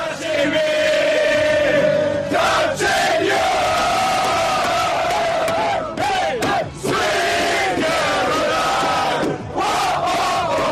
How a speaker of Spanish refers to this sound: Esta es la celebración de los austriacos metidos en el autobús.